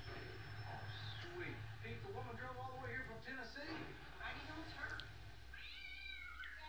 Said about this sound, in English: Oh, 10 points for the stock cat sound effect. Love the stock cat sound effect, man.